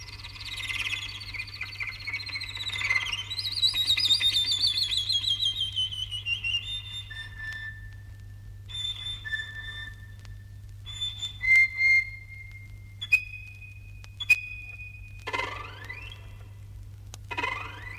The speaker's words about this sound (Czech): Vjerovatno najljepša ptica koja se može vidjeti na Balkanu, bar što se tiče raznovrsnosti, sklada i živosti boja, svakako je obična pčelarica ili žura, Merops apiaster.